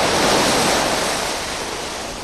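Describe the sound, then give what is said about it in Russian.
Sea waves surge and foam in a steady, broad, loud roar of churning water, slowly easing off toward the end with no voices present. “Море вдруг зашумело и спенилось.”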